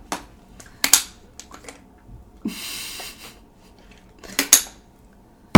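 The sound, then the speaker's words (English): A few sharp clattering knocks, like objects clinking on a hard surface, then a sudden loud, heavy thud as something is slammed down on a table. No one speaks. “See? Right on the table. Look. Slammed it.”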